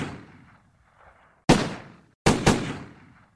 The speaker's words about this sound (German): Am Morgen des 2. Juli 1994 peitschten 12 Schüsse über den Parkplatz des El Niño